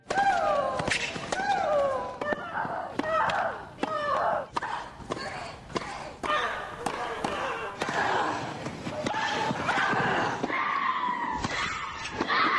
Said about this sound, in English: The complaints about grunting in women's tennis have gotten louder in direct proportion to the volume of the grunts. It began, sort of, with Monica Seles, only to be outdone then by the likes of Maria Sharapova and the Williams sisters, of course.